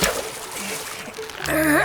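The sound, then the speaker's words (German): A fish taken off a fishing hook and dropped into water makes a watery splash and churning spray that fills most of the moment, steady, before a voice cuts in near the end. “Während die Angelschnur hochgezogen wird, nimmt Stockmann den Fisch vom Haken und lässt ihn ins Wasser fallen.”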